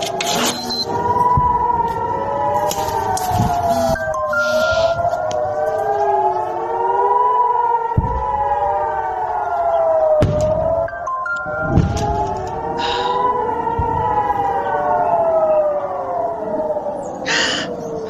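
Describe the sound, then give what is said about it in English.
A warning siren, recorded during the night at a home, wails continuously, its pitch rising and falling in slow, repeating sweeps, loud and steady for the whole stretch, with several faint beeps, knocks and background noises underneath. “I want them to hear what it is that you are listening to all night long in your home with seven children, a husband who is incapacitated with a disability, and some of the kids aren't at home.”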